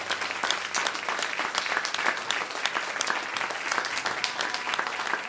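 Many people clap steadily in praise of the Lord after a song one evening, a dense, continuous wash of many hands sustained throughout, fairly loud, with no speech over it.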